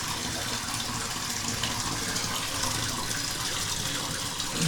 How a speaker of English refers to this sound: Let's get concentrated on this hot water here for a second.